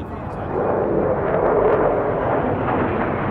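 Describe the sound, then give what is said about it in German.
A steady, loud roar of military jets flying over a parade rumbles across the whole stretch, broad and noisy with a deep low end, swelling slightly in the middle without any break. “Der alles entscheidende Schlag aus der Luft. Jetzt kommen die Jets.”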